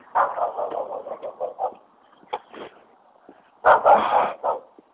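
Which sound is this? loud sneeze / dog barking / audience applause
dog barking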